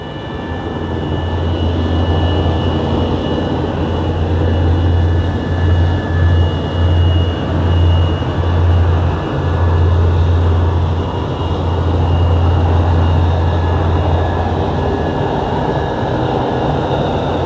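A loud, steady airplane engine drone, a deep rumbling hum with a faint high whine over it, holding constant throughout with no voices.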